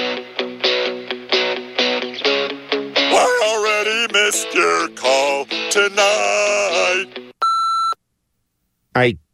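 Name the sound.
answering machine beep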